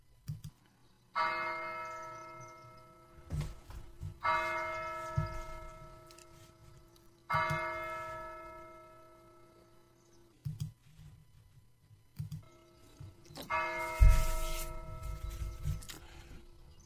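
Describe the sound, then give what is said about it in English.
A church bell at St. Joseph's Catholic Church in Dover, Ohio, tolls four slow, heavy strokes roughly three seconds apart, each ringing out and fading gradually over a low background rumble, with no voices. “This is one of the church bells ringing at St. Joseph's Catholic Church in Dover, Ohio.”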